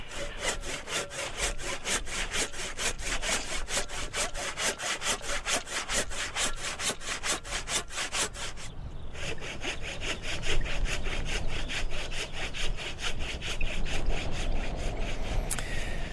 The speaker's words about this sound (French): Oh, tu sais quoi? Si je scie ici... Ah, ça... Je vais voir, hein. On va voir s'il se laisse...